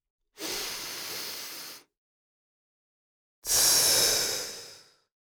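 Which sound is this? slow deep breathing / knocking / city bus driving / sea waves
slow deep breathing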